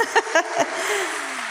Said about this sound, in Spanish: Un aplauso para los actores.